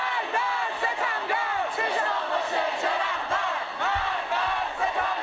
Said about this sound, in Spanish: Fueron miles de valientes que se enfrentaron a los antidisturbios, con gritos como este.